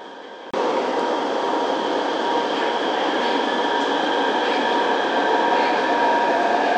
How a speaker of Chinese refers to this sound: 欢迎乘坐地铁昌平线列车，列车运行前方是生命科学园站，远途的乘客请往车厢中部走，下车的乘客请提前做好准备。